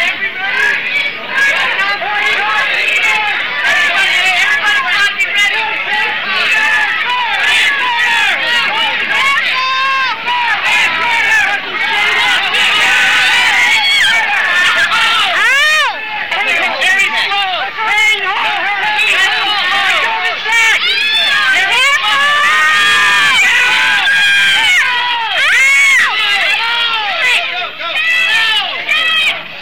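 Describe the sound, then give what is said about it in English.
A loud, dense crowd at an activist protest outside Neiman Marcus in San Francisco's Union Square fills the scene with overlapping shouts and chatter, and a man's strained yells of pain rise repeatedly above the din as he is grabbed, sounding urgent throughout. “I see a man yelling in pain.”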